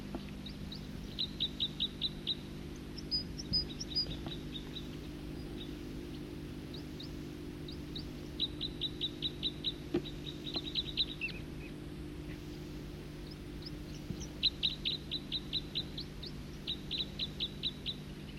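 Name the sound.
birds singing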